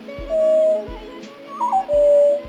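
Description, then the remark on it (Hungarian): Mistle thrush song: several clear, fluty whistled phrases, mid-pitched and fairly loud, with a short warbling flourish in the middle and a few soft low thumps underneath. “A léprigó az egyik legnagyobb testű európai rigófaj.”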